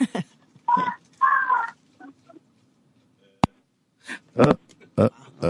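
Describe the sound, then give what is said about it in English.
A toddler screams over a phone line in several short, shrill bursts separated by pauses, with a sharp click partway through and no clear talking. “No, she clearly wants to get away from that toddler who's screaming.”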